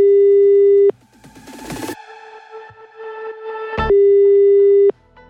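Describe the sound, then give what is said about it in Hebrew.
A telephone ringback tone on an outgoing call to the phone number in an announcement for a Purim party sounds two steady, buzzing one-second beeps about three seconds apart, loud as if through the earpiece, with muffled line noise and clatter filling the gap. “הנכם מוזמנים למסיבת המראים בפורים עם התגלות המשיח עם מספר טלפון, וזה דבר שאני חייב לצלצל אליו.”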